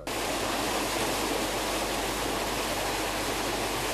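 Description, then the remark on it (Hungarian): A steady, loud rush of water pours continuously as water is pumped out of a drainage canal overgrown with sedge and reeds, with a low mechanical hum underneath and no pauses or voices. “Itt épp egy üzemi csatornából szivattyúzzák a vizet.”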